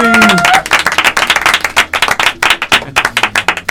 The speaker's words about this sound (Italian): Auguri, applausone, ragazzi.